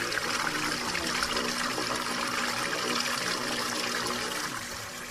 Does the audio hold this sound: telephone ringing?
no